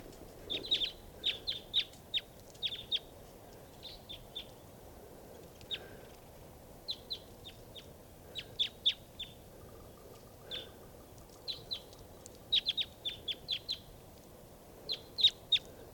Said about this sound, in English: There's some crossbills right here in the trees at the campsite. I think they're type 2s, foraging on cones in the trees.